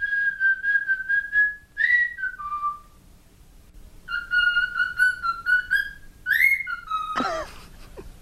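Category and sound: bird, pet bird whistling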